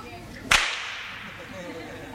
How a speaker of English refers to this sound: I just wanted you to know that the whip is what makes the noise and not the gun.